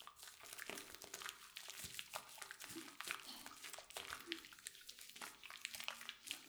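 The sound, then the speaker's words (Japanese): Wet, squelching hand-lathering of shampoo into foam before putting it on the hair: a steady run of soft crackling squishes and bubbly pops, fairly quiet and continuous, with no voice over it. “だからしっかり手で泡立ててから。”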